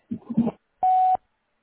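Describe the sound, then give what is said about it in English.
A short bit of speech trails off, then a single loud, steady electronic beep from the answering machine of Howard's Tree Service sounds for about a third of a second, followed by silence. “Please leave your name, address, and phone number at the beep.”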